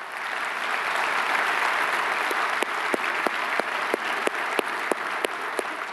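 An audience applauds steadily, a dense wash of many hands clapping, with a few sharper individual claps standing out in a rhythmic pattern toward the end.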